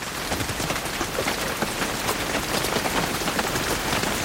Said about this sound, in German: Sommerregen.